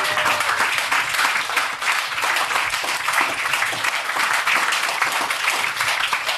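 A crowd applauds loudly and steadily for a female artist, many hands clapping in a dense, continuous wash that holds for several seconds without any talking.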